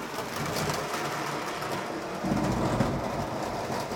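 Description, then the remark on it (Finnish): A small motorized whir and rattle runs steadily as a model train rolls along its track through a train tunnel on a layout loop, growing slightly louder and rougher partway through. No one speaks. “Sinne hävisi junatunneliin ja tulee sitten varmaan kohta näkyviä täältä.”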